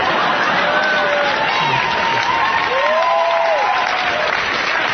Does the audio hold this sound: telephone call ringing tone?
no